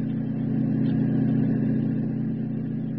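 A car engine hums steadily at a constant, moderate level, like a vehicle cruising along the road. The low droning tone stays even throughout, with no voices.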